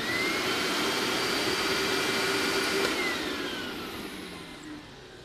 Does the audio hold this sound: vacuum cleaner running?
yes